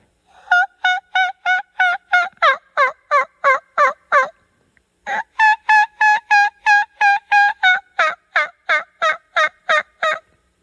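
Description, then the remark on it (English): A turkey hen gives a kiki run call: two long, steady series of quick, clear whistled notes, fairly loud, broken by a short pause, with no one talking. “But I've heard them hens do that kiki run in the spring.”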